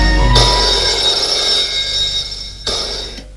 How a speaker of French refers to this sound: Le lendemain, elle téléphone à François.